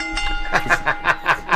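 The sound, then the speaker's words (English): A bell rings in a quick, even series of about six bright, metallic strikes, each one ringing briefly into the next, with no voices over it. “Ring the bell again.”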